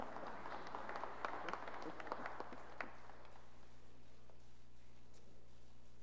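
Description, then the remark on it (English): An audience at a church service applauds a deacon: a dense, fairly soft patter of many hands clapping for about three seconds, then thinning out and fading away, leaving a low steady hum. “Round of applause for”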